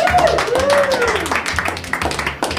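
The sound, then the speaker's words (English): A group of cricket players bursts into a round of applause after their match, steady clapping running throughout with excited voices and cheering mixed over it, fairly loud for the whole few seconds. “Guys, give yourselves a round of applause.”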